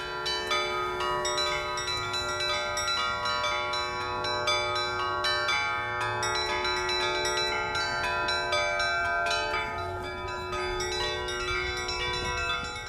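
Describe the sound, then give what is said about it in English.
Church bells peal continuously across the town of Suzdal, several bells ringing together in a dense, overlapping clangor with sustained metallic tones and rapid strikes, loud and steady throughout with no voices. “Now, you can't spend long in Suzdal without hearing the unmistakable sound of church bells ringing out across the town.”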